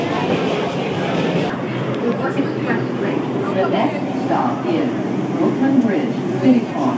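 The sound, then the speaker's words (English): An express subway train rolls along with a steady, dense rumble and hiss that holds at an even loudness throughout, while people's voices murmur underneath the noise. “The train is really moving.”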